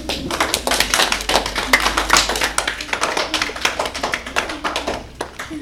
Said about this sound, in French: C'est une bonne réponse. On peut l'applaudir.